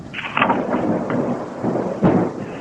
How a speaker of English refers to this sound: It started to rain. Great drops beat on the roof of the car.